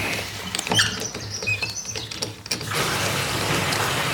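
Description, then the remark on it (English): Water rushes steadily into an empty tank as it is refilled after running dry, a constant hiss that follows a couple of seconds of scratchy clicks and patter. No one speaks. “So I had to put it on. Overflown. Run some more water in.”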